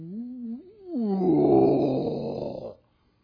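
A voice imitates the roar of a male lion at a zoo in South Carolina. It starts as a low, wavering moan, then swells into a loud, rough, growling bellow for about two seconds before cutting off abruptly.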